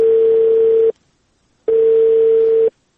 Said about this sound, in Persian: بله سیب، تلفون قطع شد.